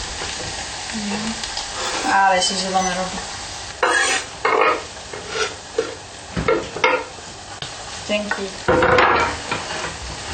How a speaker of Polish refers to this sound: Okej, olej już jest gotowy. Więc wrzucamy mąkę i robimy zasmażkę. Mieszamy. Od razu dorzucam wegetę.